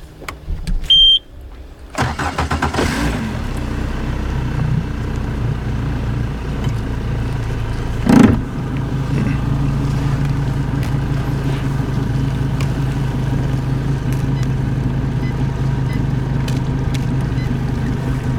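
A motorboat's motor starts up and settles into a steady, loud droning hum that runs continuously, with a brief surge partway through and no talking.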